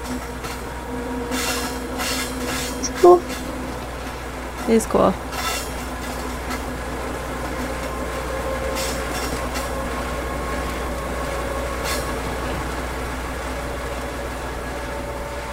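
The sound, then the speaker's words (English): A train rumbles steadily past on a railroad track right next to a library, with intermittent wheel clacks and faint metallic squealing throughout, while someone briefly speaks over the noise. “Because it's at like, because on the way to the library, there's like this, there's like a lot, there's a train that's just going right past it. Because there's a railroad track right next to it.”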